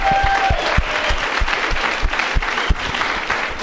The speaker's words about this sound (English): Tattered Cover, this is the second time you've done this for me. And they do deserve a huge round of applause, struggling as a small independent.